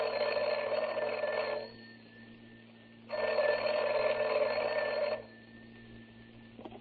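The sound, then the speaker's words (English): A telephone rings twice as Jack Benny places a long-distance call to Rochester, each ring a long buzzing trill of about two seconds with a pause between, heard clearly on its own over a faint steady hum. “And here's Jack calling Rochester on the long distance phone.”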